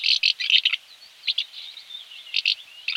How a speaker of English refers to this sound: And that was the sound of a house martin. And they can be heard at the moment sweeping the skies for insects and often accompanied by their young